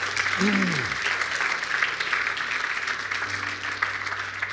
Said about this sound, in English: Can we clap for those who just prayed?